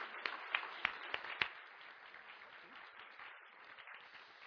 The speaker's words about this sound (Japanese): 今日エディ先生を皆さん拍手で迎えたいと思います。 Please welcome Pastor Eddie.